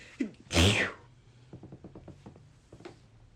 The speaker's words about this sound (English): I literally just sneezed and he still didn't say bless you.